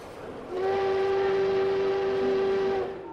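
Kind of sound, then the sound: vehicle, train departing with whistle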